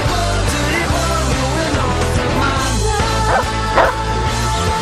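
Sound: big dog barking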